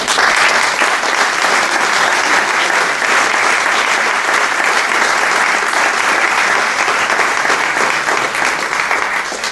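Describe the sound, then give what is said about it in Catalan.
A crowd applauds loudly and steadily, a dense wash of many hands clapping that holds at full strength for several seconds without any voices breaking through. “I ja podeu tornar a aplaudir perquè demà li toca a mon tio”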